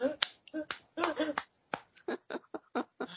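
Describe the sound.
A burst of sharp hand claps, about a dozen in quick, slightly uneven succession, fairly loud and dry, with a hint of voice in the background.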